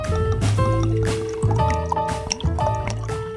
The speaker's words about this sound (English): Raymond pours some water into a cup. She gives it to Lupin.